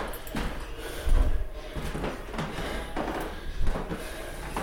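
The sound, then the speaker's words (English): A person walks without a cane on the main floor of a building, footsteps thudding across old creaky wooden floorboards that creak and groan irregularly underfoot, with a couple of heavier steps standing out against steady room noise. “Here are the creaky wooden floors that I was talking about.”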